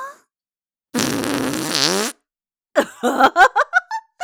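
fart

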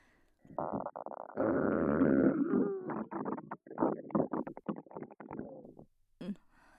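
fart

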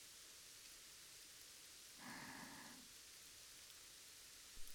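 rain falling

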